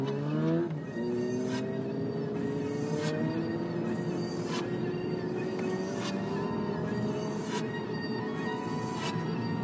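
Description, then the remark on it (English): A loud motorcycle engine revs hard and accelerates as its rider opens it up on the road ahead of a car. Its pitch climbs steadily, with brief bursts of noise at regular intervals like quick gear shifts. No one speaks. “Guy on this motorcycle ahead of me that is like opening it up and really going for it makes me want to drive fast too.”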